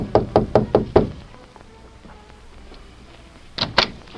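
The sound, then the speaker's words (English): The Lone Ranger and Tonto knock on Lolita's door at a hotel in the town of Flat Rock: five firm, evenly spaced knocks in quick succession, a quiet pause, then two more sharp raps close together. “A few minutes later, they knocked at her door.”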